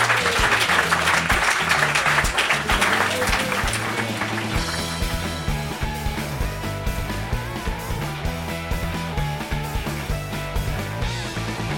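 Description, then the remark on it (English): A crowd claps loudly for three guests in a dense, sustained burst of applause that gradually fades over several seconds as instrumental music swells up and takes over. “Please give a big round of applause for our three guests.”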